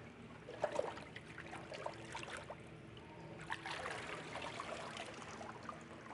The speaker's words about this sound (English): on your confession of faith in Jesus Christ, I baptize you with water in the name of the Father, and of the Son, and of the Holy Spirit. May God baptize you with the Holy Spirit from above.